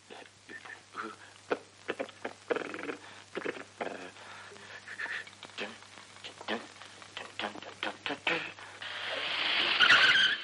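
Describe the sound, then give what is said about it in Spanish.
A car draws up at the front door of a house and brakes hard, ending in a loud, rising squeal of tires as it comes to a stop, after a stretch of choppy, uneven noise. “Un coche se detiene en la puerta de la casa.”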